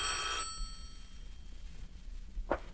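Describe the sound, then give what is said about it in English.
A telephone bell rings in a short, bright burst at the start, then fades into a quiet room hum; a faint brief tone sounds near the end. “The phone.”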